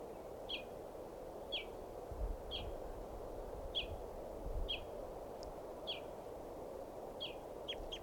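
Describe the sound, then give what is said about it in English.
A wild male bird calls repeatedly, giving about nine short, high-pitched chirps at a steady, evenly spaced rhythm over a constant low rumble of background noise. “There's a wild male right here. That was him.”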